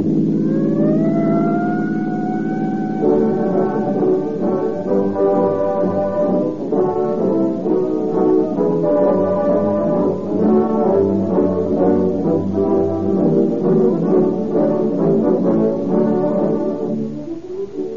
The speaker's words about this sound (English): Tonight, there are thousands of police and sheriff's cars out on the streets and roads, pursuing criminals or cruising watchfully, ready to dash with sirens screaming to the scene of any emergency.